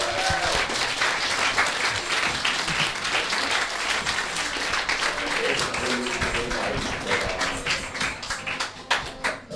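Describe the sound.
Sustained audience applause at a live stand-up comedy show, greeting the start of the second part: dense and steady clapping from many hands for nearly ten seconds, with some voices mixed in before it starts to taper at the end.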